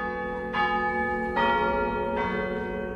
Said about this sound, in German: Also es macht wirklich Laune, da besonders an der dicksten Glocke zu ziehen und die richtig zum Klingen zu bringen. Also es macht mir richtig Spaß.